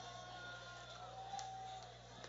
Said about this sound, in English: That's the shark mascot riling up the crowd if you're hearing some crowd noise.